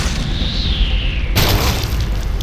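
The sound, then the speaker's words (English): A hunk of cement the size of a bowling ball drops from above and slams down with a sudden deep crash, following a faint descending whistle, then a rumbling burst of debris and noise that carries on loudly to the end. “A hunk of cement the size of a bowling ball drops from above.”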